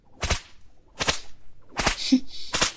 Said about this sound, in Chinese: 所以你要记住，现在打在你身上的每一鞭子都是姐姐对你满满的爱，知道了吗？